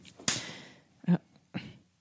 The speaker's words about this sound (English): What was that? Nothing. You just slapped your fist. No, I didn't. Yeah, you did. They could hear it. You guys didn't. You guys heard that. You looked at me menacingly, and then you smacked your fist.